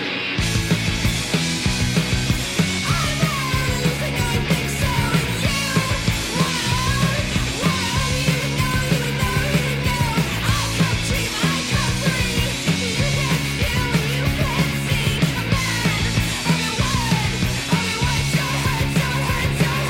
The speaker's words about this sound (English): which kicks off with a lot of attractive guitar noise and yelling before settling into couplets